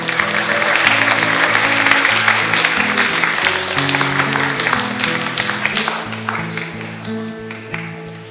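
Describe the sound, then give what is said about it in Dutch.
A crowd in a church claps steadily and loudly throughout as the most important people of the church come in, with music carrying a moving bass line underneath. The applause swells early on and fades only slightly toward the end. “Daar komen ze binnen. Applaus, mensen.”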